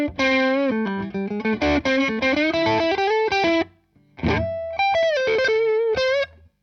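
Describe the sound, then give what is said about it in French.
An electric guitar with fairly high factory-set action plays a clean, pure tone with the reverb turned down to a light touch: a run of notes and chords, a brief pause, then a second phrase of sustained notes. No voices. “Je vais dégager un petit peu ma reverb pour écouter ce que ça donne avec un son clean assez pur.”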